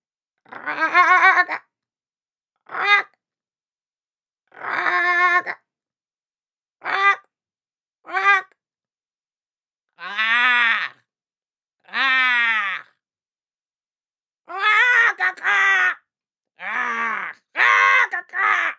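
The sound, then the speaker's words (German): Human voices imitate ravens in conversation: about a dozen short, harsh croaks and caws, some rising or falling, trade back and forth with brief pauses between them, loud. “Annäherung an ein Gespräch der Raben.”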